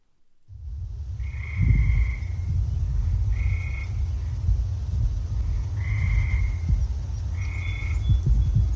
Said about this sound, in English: So speaking of tree frogs, up next we have the gray tree frog. Yes, and we are ending the early season frogs and moving into the mid-season frogs. So these, on average in Minnesota, will start calling kind of mid to end of April, the tree frogs.